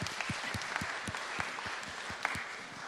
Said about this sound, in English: Yeah, give them a clap, they survived.